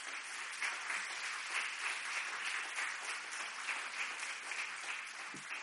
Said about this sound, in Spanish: De momento vamos a darle un aplauso